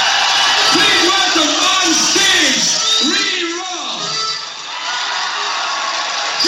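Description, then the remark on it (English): A huge crowd of thousands in Galway, Ireland, sings together in a dense, roaring wash of voices, the melody rising and falling in long swoops, dipping briefly toward the end before swelling again. “Oh, and they're singing. This is a Galway crowd. Thousands.”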